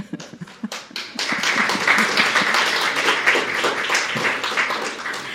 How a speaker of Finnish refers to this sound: Olemme tänään myöskin taputtaneet paljon enemmän kuin yleensä suomenkielisissä kokouksissa, mutta olemme taputtaneet Herralle. Olemme todellakin päässeet vähän niin kuin siihen makuun jo, että me juhlimme Herran kunniaksi.